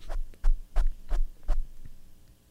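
A microphone being dusted off: about five muffled, bassy thumps with brushing swishes, in a steady rhythm roughly every third of a second, then fading to a low hum. No one speaks.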